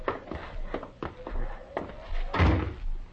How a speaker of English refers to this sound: Open the door. Open the door!